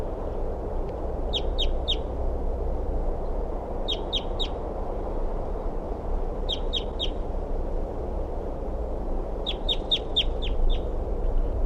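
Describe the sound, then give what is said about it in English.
Short bursts of high, thin crossbill begging calls coming from a nest in a tree, three to five quick notes each, repeat about every two and a half seconds over a steady low rumble of background noise. “So recording sounds like begging calls coming from the nest.”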